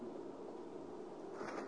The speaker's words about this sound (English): Oh, it's good to hear the pages turning on a Tuesday night. Revelation, the conclusion. The conclusion. Revelation chapter 1. And verses 5 and 6.